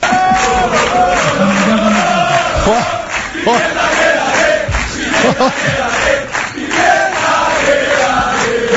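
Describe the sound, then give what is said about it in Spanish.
A large football stadium crowd in Gran Canaria, at a Unión Deportiva Las Palmas match, chants and roars together in affection for players, a dense wall of many voices with rhythmic swells and shouted bursts, loud and continuous throughout. “El público, vamos, le demostró un cariño extraordinario a él y también a Kirian”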